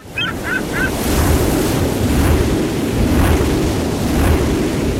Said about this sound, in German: So hört es sich an, wenn die NBW Wind in Energie verwandelt. Unser neuer Ostseewindpark NBW Baltic 2 erzeugt jetzt umweltschonend Strom für bis zu 340.000 Haushalte im Jahr.